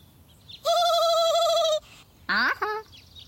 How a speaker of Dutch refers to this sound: Dat is geen kip, Jopie. Dat is een haan. En hanen leggen helemaal geen eieren.